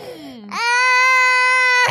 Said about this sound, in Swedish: Förlåt, ni som lyssnar vill ju kanske inte höra barnskrik.